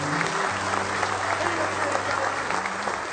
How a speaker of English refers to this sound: Clap your old hands. Sing to the top of your voice. God has done something for you that nobody else could do. Give Him a hand clap of praise tonight.